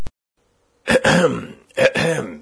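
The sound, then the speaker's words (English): Two fairly loud bursts of coughing, harsh and throaty like someone clearing their throat, following a short pause of near silence with no one speaking. “When one is dictating, one should speak fluently, and not cough.”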